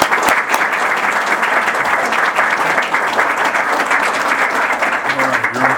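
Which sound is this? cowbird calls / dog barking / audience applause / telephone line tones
audience applause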